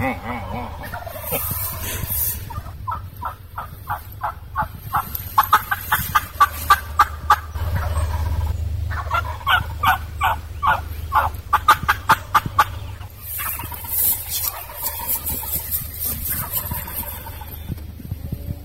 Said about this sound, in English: how I use my turkey call to locate turkeys where the roost is